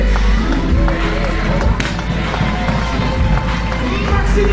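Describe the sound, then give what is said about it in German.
A stadium crowd applauds and cheers as the starting defense of the Ingolstadt Dukes is introduced, a dense, loud, steady roar of clapping with voices mixed through it for the whole stretch. “Gerade wird die Starting Defense der Ingolstadt Dukes präsentiert unter tösendem Beifall der Zuschauer.”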